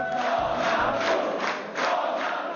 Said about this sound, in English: Crowds of supporters chanted his name, and even though his party looks only to have placed second in the vote, Mr. Tusk declared victory.